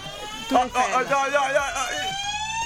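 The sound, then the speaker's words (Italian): An electronic quiz-show siren signalling that time is up blares with a steady, slightly rising buzzy tone for a couple of seconds, loud, while voices talk over it. “Il tempo è finito, era la sulla, decima. Sulla sirena.”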